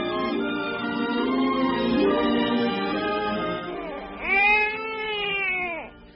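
A baby cries in sustained, wavering wails for several seconds, ending in one louder, arching cry. No one speaks over it.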